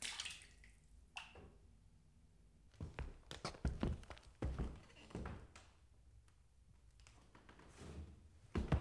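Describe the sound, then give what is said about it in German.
A series of heavy, uneven footsteps on stairs thud and scuff, clustered in the middle of the stretch, with a few sharper knocks and quieter shuffling before and after; the footstep sounds were reassembled on a computer. “Am Computer setzte ich die Schrittgeräusche dann neu zusammen.”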